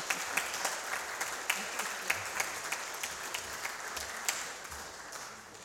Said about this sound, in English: No? We just give them a round of applause. Congratulations.